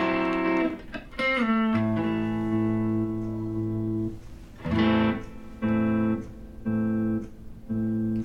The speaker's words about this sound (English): So it gives like an echo. That's the pulse mode.